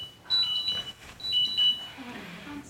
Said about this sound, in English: It's all right. The 10:30 alarm.